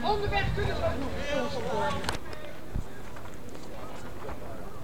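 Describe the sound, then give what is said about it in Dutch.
Hooves clip-clop from a horse-drawn carriage with a walking march of people following behind it, a few sharp, uneven knocks, partly buried under a crowd's voices and outdoor bustle. “Iedereen die meewandelt, achter de koets aan nu.”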